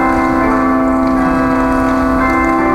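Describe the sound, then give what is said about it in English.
A bell rings steadily with a sustained, resonant tone that fills the whole moment, loud, with no talking over it. “I'm only going to share, since our bell is ringing, I'm only going to share the one with you.”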